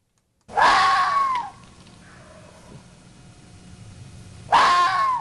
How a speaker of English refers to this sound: That is a vixen's scream, and that's one of the things a fox says, especially around mating season, which our guest says is getting underway.